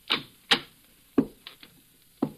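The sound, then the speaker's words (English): Footsteps on a hard floor, presented as President Wilson walking in the Lincoln Study on an evening in spring 1917: four firm, sharp heel strikes at an uneven, unhurried pace, with a couple of softer scuffs between them. No voices are heard. “Those are the footsteps that could be heard as President Wilson walked in the so-called Lincoln Study on an evening in the spring of 1917.”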